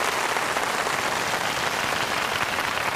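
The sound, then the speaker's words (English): Sustained applause from a crowd for Senegal winning AFCON 2026, the African Cup of Nations: a dense, steady wash of many hands clapping at once with no pauses, loud and even throughout, with no voices standing out. “Keep clapping for them.”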